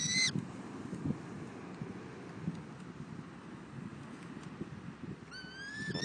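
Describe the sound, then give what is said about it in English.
Birds of prey kept for falconry give two shrill, screechy calls, one at the very start and another near the end, heard over a steady wash of wind and low outdoor rumble. “I feel fortunate to have both the passion for birds of prey and the opportunity to hang out with them, as I did the other day.”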